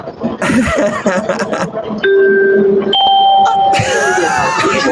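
A two-tone subway train announcement chime rings out over background chatter and noise aboard a subway train, a lower steady note followed by a higher one, clear and sustained before mixing into busy crowd sound; the next stop announced is Concourse B.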